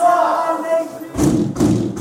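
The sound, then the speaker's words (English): Two heavy metallic bangs of a prison cell door slamming shut at bang-up, locking prisoners behind their door, land loud in quick succession after a sustained humming, voice-like tone. “It's a bang-up sound. It's called, we're behind our door and we can't get out.”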